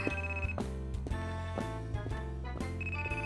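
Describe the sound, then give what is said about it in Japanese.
A phone rings with a melodic electronic ringtone, bright sustained tones repeating in a steady pattern roughly once a second, fairly loud and continuous with no voices. “まだ鳴ってるけど。”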